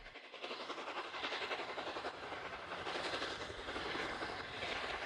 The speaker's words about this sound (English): A small circle of light in the darkness grows larger. Then the train emerges into daylight between steep banks of vegetation. A front-on view of the locomotive exiting the tunnel in great billowing clouds of white steam and smoke.